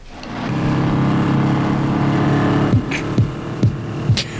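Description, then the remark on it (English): A car engine rumbles with a steady, throbbing low drone, then gives several sharp, punchy bursts as it revs, with no talking. “What sounded like Macho's car.”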